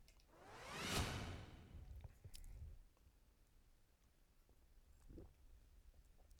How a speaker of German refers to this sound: Mit einem Schluck Wasser für die, die es nicht gesehen, sondern nur nicht gehört haben.